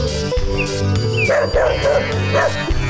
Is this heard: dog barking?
yes